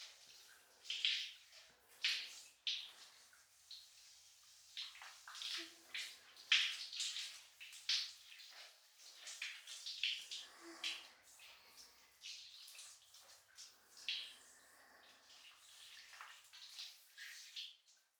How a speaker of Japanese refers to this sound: シャワーはこのくらいでよろしいでしょうか。